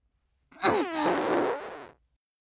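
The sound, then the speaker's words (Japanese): A single drawn-out fart, loud, lasting about a second and a half with a wavering, sputtering buzz that trails off abruptly. No talking. “くっせえおなら、お嗅ぎください。”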